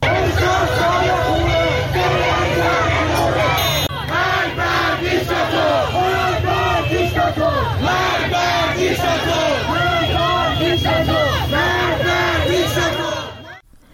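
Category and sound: crowd, crowd of protesters gathered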